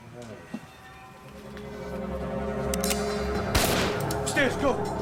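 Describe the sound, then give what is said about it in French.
A single sharp, loud gunshot cracks out partway through inside the Yugoslav mission to the United Nations in New York, standing above a steady low rumble and murky background noise, with a fainter thump heard earlier. “Des policiers qui avaient entendu le coup de feu se précipitèrent à l'intérieur du bâtiment.”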